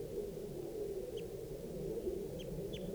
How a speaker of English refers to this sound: now, I've got 2 birds in the tree, a gray bird and a red bird. And they were in the same tree as the adult female, and they're calling here. That's the adult male, that's the gray, male gray.